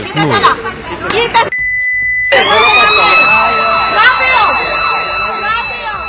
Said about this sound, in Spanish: Y acá suena una alarma que algunos de los vecinos activan para llamar a las autoridades